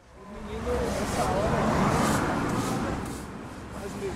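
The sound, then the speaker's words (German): A dense wash of busy street noise in the city centre of Recife, northeastern Brazil, with passing cars and mopeds, donkey carts and a murmuring crowd of passers-by, steady and fairly loud throughout, swelling slightly in the middle with indistinct voices mixed into the traffic roar, on a hot, dusty day. “Autos und Mofas teilen sich die Straßen mit Eselskarren und zahllosen Passanten.”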